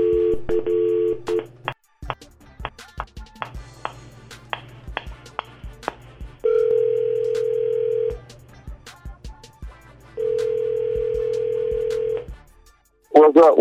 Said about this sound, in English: Let me pick up this phone real quick and give him a quick call.